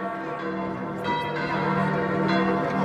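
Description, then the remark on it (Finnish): The church bells of St. Peter's Basilica in Rome ring out continuously in a dense, overlapping wash of tolling, echoing over St. Peter's Square; resonant and fairly loud, swelling slightly partway through, with a spacious echo and no voices. “Nämä kirkonkellot soivat Pietarin kirkossa, kaikuen yli monumentaalisen Pietarin aukion, ja siitä Rooman historiallisille kaduille ja kujille.”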